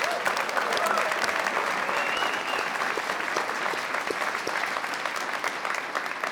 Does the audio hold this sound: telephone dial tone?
no